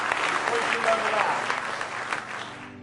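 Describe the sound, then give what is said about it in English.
An audience at a church service claps their hands together in praise of the Lord, a dense, sustained burst of applause crackling steadily across the whole stretch at a loud, even level before easing off slightly at the end. “Give him one more good hand clap of praise tonight if you love him.”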